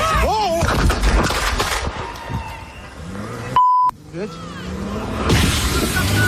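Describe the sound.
A quick burst of sharp gunshot cracks, fired by an ICE agent, rings out near the start amid raised voices, then talking continues, briefly cut by a steady electronic bleep.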